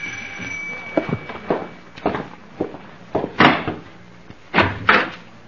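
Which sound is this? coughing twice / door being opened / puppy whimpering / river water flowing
door being opened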